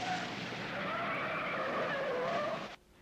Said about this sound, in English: With the two guards watching, the ambulance drives away, flashing its three red lights. It descends a steep ramp and turns onto a street, escorted by a police car and the two sedans.